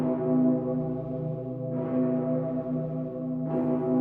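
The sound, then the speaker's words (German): A massive church bell, the Dicker Pitter in Cologne, tolls with a deep, sustained hum, its low rich partials ringing steadily; fresh strikes arrive roughly every two seconds, each adding a bright metallic shimmer over the droning tone. “Zum Beispiel hier der dicke Pitter in Köln.”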